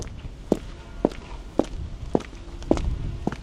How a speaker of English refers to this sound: Listening to my footsteps, you can get maybe an idea of how big this warehouse is.